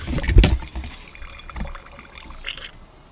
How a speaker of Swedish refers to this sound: Ja, jag gör sådär. Häller ut. Oj, sorry.